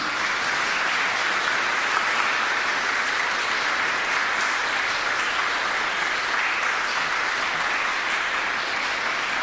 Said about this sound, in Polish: Zapraszam do nas laureata, który jest z nami, a pana prezesa proszę o wręczenie medalu. Wielkie brawa!